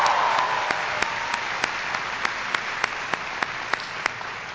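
An audience at the Catholic University of Peru breaks into steady applause for an introduction, a dense wash of clapping with a few sharper individual claps standing out at a fairly regular beat, holding even in loudness throughout with no voices.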